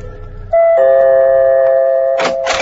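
A doorbell chime at the huge front door of a palatial hillside mansion in Hollywood rings out loudly, two sustained tones that hold and ring on for about two seconds, followed by a couple of brief clattering noises like the door being handled.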